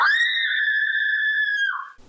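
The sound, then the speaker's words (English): A single sustained, high-pitched human scream of fear, loud, holding steady for nearly two seconds before dropping slightly in pitch and cutting off. “Gee, what kind of scream is that? That sounded fear.”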